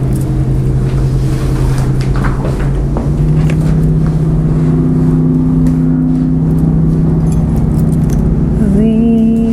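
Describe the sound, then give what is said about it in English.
A car motor runs steadily with a loud, continuous low humming drone, its pitch shifting upward slightly near the end, with faint clinks and rattles over it and no voices. “Zing, the motor.”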